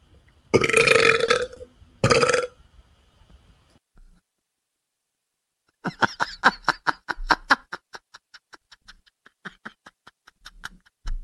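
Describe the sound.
A loud, drawn-out fake burp forced up, broken into two gurgling bursts, followed after a pause by a rapid string of crackling, stuttering fake belch sounds and snickers.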